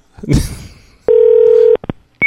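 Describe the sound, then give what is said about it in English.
A clunk of a phone handset, then a steady electronic tone, a couple of quick beeps and a higher tone starting at the end, as a landline is dialed to place a call. Clear, no talking. “I gotta call once more.”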